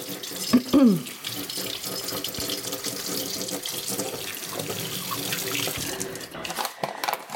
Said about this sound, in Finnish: Ja mä taina tehdä sen käsin, ja mä pesen vielä 100 000 kerran kädet kun.